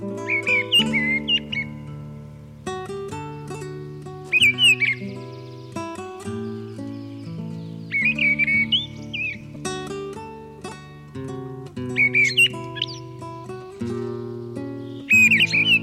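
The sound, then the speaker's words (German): Mistle thrush song: short, loud fluting phrases repeat about every four seconds, each separated by a pause, over a steady low background of sustained musical tones. “Das war die Misteldrossel.”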